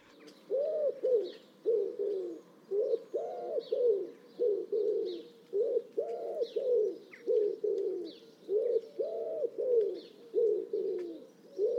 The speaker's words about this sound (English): barely opens its beak to sing because the noise comes from within its chest cavity. And I find that it's the rhythm of the wood pigeon song that really picks it out, because the rhythm goes, I don't want to go, I don't want to go, I don't want to go.